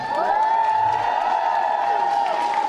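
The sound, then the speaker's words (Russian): A squad of children shouts a cheer together in unison in a festival cheer contest, the cheer addressed to the Mining and Chemical Combine (GKhK), loud, their voices held in one sustained, ringing cry for the whole few seconds. “Праздник начался с торжественной линейки и конкурса кричалок, который придумывал каждый отряд.”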